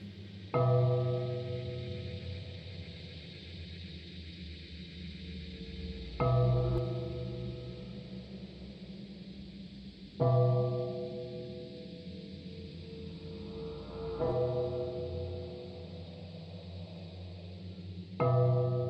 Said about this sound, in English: But now there were 12 strokes to be sounded by the bell of the clock.